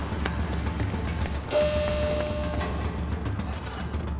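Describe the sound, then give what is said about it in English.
Heavy rain pours down in a steady, dense hiss that fills the whole stretch, with a brief higher-pitched tone rising over it partway through. No one speaks. “Okay, the rain is a pouring.”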